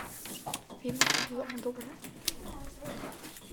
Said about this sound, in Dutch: We gaan dobbelen.